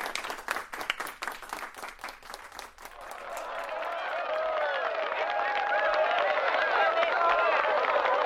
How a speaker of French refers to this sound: Ok, bah écoute, merci beaucoup. Je propose à la classe d'applaudir, comme ça on fera un applaudimètre.